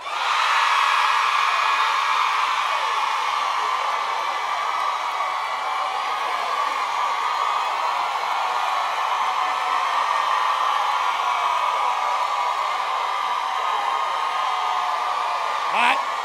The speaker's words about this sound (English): Now give the Lord holler. Wait a minute. I'm going to show y'all how to holler. But we got to learn how to holler. All the women holler.